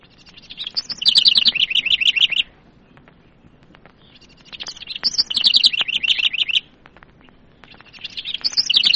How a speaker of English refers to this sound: Eastern Bluebird.